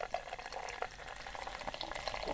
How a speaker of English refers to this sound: Oh, you have to stop. You're killing the Guinness. Just let it settle for a little bit.